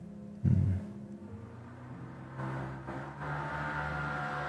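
A motorcycle roars past, its engine droning with a steady low rumble after a sharp loud burst at the start, then swelling into a louder, buzzing rev that holds to the end.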